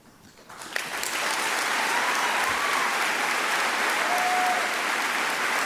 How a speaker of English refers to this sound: I'm playing the applause because I want you to hear what the audience to whom he's speaking thinks of his comments. Catholic speaker, Catholic university.